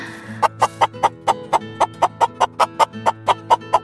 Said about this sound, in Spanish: ¡Son las gallinas! Y viven en gallineros. Ponen huevos casi todos los días.